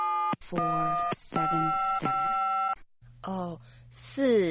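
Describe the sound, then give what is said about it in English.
A telephone ringing tone plays over the line in a few steady, repeated bursts, fairly loud, as a call is placed to a clothing shop, and then a voice starts talking. “Shh, it's ringing.”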